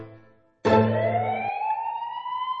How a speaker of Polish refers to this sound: O, znów karetka pędzi na sygnale. No. Dziś już trzeci raz.